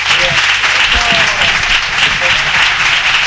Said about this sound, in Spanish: Digo que las voces de estos aplausos de fondo es bueno. Me suenan a saber y ganar, ¿sabes? Más de caña.